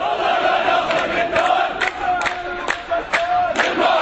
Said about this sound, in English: This is a crowd here of perhaps several thousand people. They've taken over this whole area. They've put rocks in the road to prevent the police coming in here.